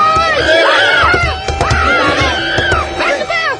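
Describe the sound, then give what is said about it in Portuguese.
Loud horse neighing, several shrill, quavering whinnies one after another over a dense, rumbling background, continuous for the whole stretch. “Seriam cavalos ou tiranossauros”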